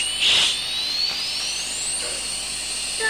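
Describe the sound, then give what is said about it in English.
A toy aeroplane's electronic sound plays alone: a thin, steady whine that glides slowly upward in pitch over a few seconds, with a brief buzzy burst at the start, moderately loud. “Don't say anything, aeroplane. Don't make any sound.”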